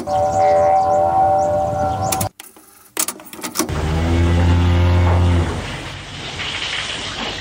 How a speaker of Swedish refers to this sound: Ja, det där var muandet från en gammal kossa.